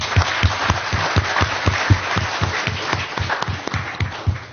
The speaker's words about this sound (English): We've got a few minutes for questions, but I'd just like to give a round of applause to our panelists.